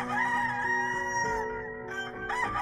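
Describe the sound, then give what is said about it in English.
A rooster crows once, loud, a long drawn-out cock-a-doodle-doo with a strained, rising and falling call that fills the whole moment, with no talking around it. “And it's written that by the last accusation, Peter is even cursing and spitting, vehemently denying Jesus when he hears the cock crow.”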